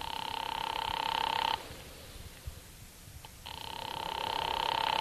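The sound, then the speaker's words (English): A telephone ringing heard over the line on an operator-placed call that goes unanswered: a buzzy, steady ring, a two-second pause, then the ring starting again, fairly loud and tinny, with no one talking. “I'm ringing. Well, keep it up.”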